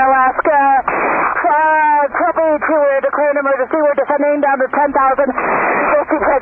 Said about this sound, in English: You can hear her heavy breathing in the cockpit oxygen mask.